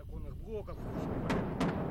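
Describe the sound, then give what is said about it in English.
Two muffled booms of outgoing artillery fired by Donbas separatists sound in quick succession over a steady low rumble, heard at a school while a janitor cleans up glass from shattered windows, following a brief stretch of someone talking at the start. “The janitor cleans up the glass from the shattered windows to the sound of outgoing artillery fired by the Donbas separatists.”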